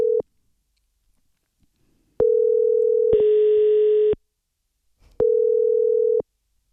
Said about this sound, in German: Also, wir rufen an.